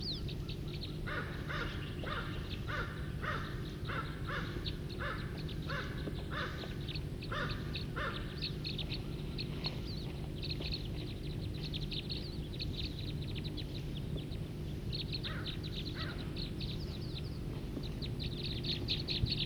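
flock of birds calling

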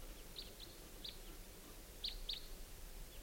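birds chirping

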